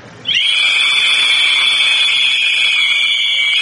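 A loud, sustained blast of many shrill whistles blown at once by people during a church service, a dense high-pitched chorus that starts abruptly and holds steady without pause.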